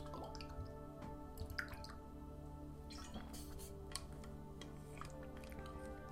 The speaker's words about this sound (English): So, to honor that, I'm going to drink a little bit of water because I feel already thirsty from all this talking about water.